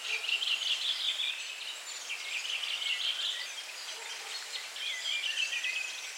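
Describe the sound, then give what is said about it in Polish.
A flock of redwings chatters nonstop, many thin, high calls overlapping into a dense, busy twitter, with no voices present. “Droździk to nie zdrobnienie, to jest gatunek.”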